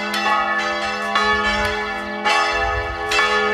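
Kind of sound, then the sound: signal or alarm, church bells ringing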